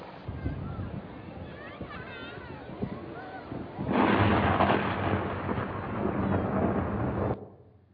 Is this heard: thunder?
yes